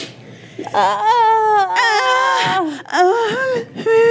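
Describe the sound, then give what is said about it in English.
A voice imitates moaning and whimpering: a loud run of drawn-out, wavering wails that slide up and down in pitch, broken by a few brief catches of breath. “Right, so there's a lot of whimpering in there too.”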